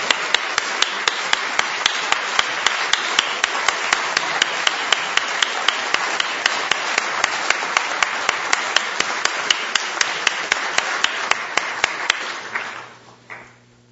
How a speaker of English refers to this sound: Would you wave your hand, please, and we'll give you a round of applause.